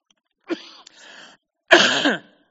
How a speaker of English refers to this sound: Now, I may cough a little bit, but we'll get through it, okay?